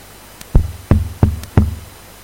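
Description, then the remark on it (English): Four firm knocks on a door, evenly spaced about a third of a second apart, fairly loud, each with a short hollow thud, with no voices around them. “And then I knocked the day after, tomorrow, the next day, and I remember he was there at the door, he opened the door”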